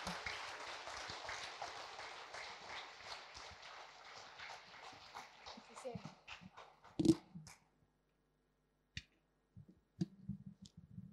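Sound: warm audience applause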